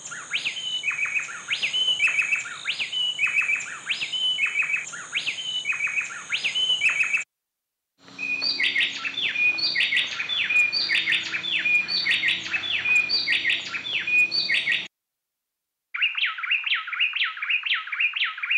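Two bay wrens, a female and a male, sing an antiphonal duet, rapid repeating whistled phrases trading back and forth, clear, in three bursts separated by brief silences, with no talking.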